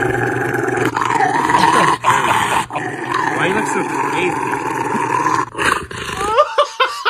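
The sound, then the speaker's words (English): A Rottweiler growls and roars loudly while someone tries to give it a bath, in long, rumbling, near-continuous bursts with a few short breaks, ending in some higher whining yelps. “I mean, the level of that scary sound coming from that dog.”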